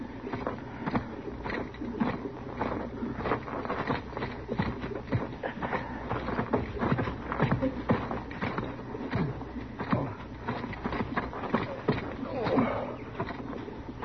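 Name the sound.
horse hooves clip-clopping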